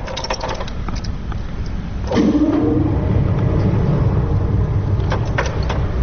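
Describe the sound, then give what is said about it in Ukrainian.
The blower motor of the first organ of the Kharkiv Philharmonic, made by the Czechoslovak firm Rieger-Kloss and started with a turn of a key, switches on about two seconds in with a brief rising whine, then settles into a steady, low rumbling hum of air being pushed into the instrument. No one speaks. “Вот сейчас заработал орган. Сейчас включился мотор. Сейчас воздух подается в его легкие.”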